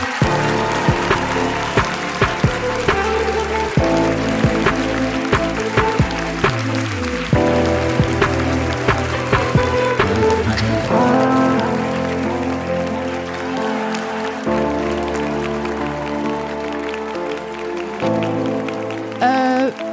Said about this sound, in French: s'il vous plaît, qu'on applaudit bien fort.